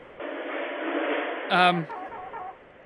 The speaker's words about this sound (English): Because they won't let me wear shorts, but then we have these chickens in here, and it's confusing me. I don't imagine it's very safe to have live chickens in a restaurant, but I don't know, girl.